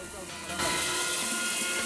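Shower water pours in a steady, hissing rush of spray that jumps louder about half a second in and then holds constant without a break.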